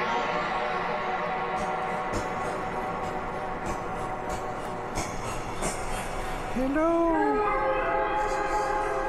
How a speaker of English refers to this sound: So that's just a reverb with a whole bunch of delay.